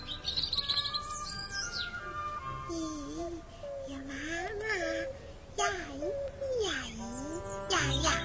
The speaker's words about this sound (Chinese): 那是小鸟，小鸟不是摇摇